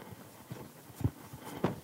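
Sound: horse hooves clip-clopping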